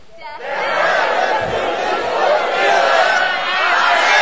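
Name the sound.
audience shouting loudly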